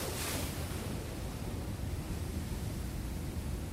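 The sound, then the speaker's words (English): A steady, full rush of surf noise, like ocean waves washing continuously without clear breaks, fairly loud, with no voices present. “Eight, the ocean.”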